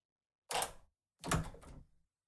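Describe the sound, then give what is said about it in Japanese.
A door creaks open in two drawn-out groans, a short one and then a longer one after a brief pause, fairly loud with no talking. “ねえ、ここの扉開けてもらえる？”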